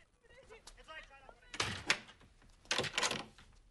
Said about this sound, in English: While the family bundle Aman into their car, Meena goes back inside and locks the door behind her.